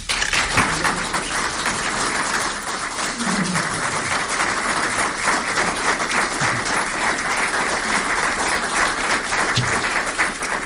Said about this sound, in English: They usually applaud when I leave, but thank you for that.